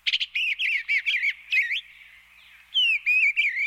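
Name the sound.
eastern bluebird song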